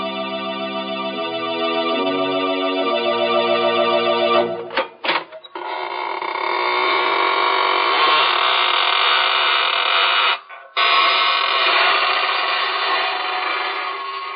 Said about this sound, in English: Good evening, friends. This is your host of the Inner Sanctum, inviting you in through the creaking door. Come on in and enter into the spirit of things.